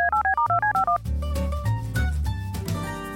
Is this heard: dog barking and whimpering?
no